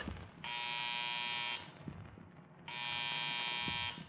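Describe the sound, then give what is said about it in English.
A field telephone buzzer rings in two long bursts, each about a second, a harsh, steady electric buzz with a gap between them and no voices, as the phone is buzzed to check that it works. “You gonna buzz the phone?”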